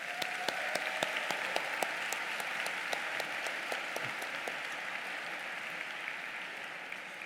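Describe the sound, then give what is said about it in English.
A graduation audience applauds the faculty and staff steadily, with many overlapping claps forming a dense, sustained wash of sound and a few sharper individual claps standing out, holding at an even level throughout with no one speaking. “So graduates, please give the faculty and staff a round of applause.”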